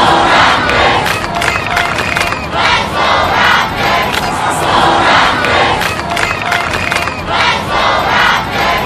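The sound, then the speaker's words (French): A huge crowd roars and cheers continuously at the celebrations of the Toronto Raptors' victory, a dense, loud wall of shouting voices with surging swells and no single speaker standing out. “ce qu'on entendait, ben, c'était la clameur de la foule hier lors des célébrations justement de la victoire des Raptors de Toronto.”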